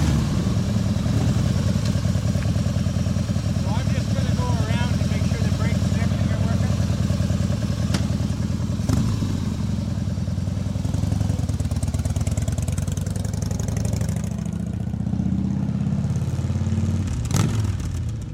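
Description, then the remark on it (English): A motorcycle engine runs steadily with a deep, throbbing rumble, its pitch rising and falling as the bike revs and is run up and down a street to check that everything, such as the brakes and lights, is working, with faint voices at times. “So he's just running the bike up and down the street to make sure that everything's working, like the brakes and the lights, and everything is going as it should.”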